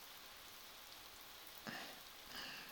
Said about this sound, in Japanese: アンさんにはこの雨の音どう聞こえます？